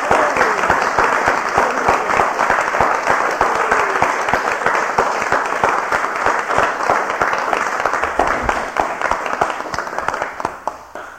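A crowd applauds loudly and steadily for about ten seconds, dense overlapping claps filling the room before tapering off slightly at the end.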